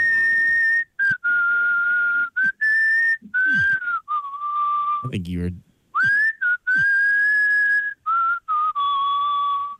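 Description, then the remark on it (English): A caller on a phone line whistles a song melody, clear and steady with sustained notes and brief pauses between phrases, loud, with a short spoken remark breaking in partway through. “someone called the Dougie line and just whistled the whole thing”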